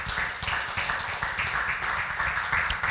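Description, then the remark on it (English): A church audience gives God a clap offering, clapping together in a steady, dense wash of applause, loud and continuous for the whole moment, with a low rumble underneath and no clear voices. “Come on and give God a clap offering right now.”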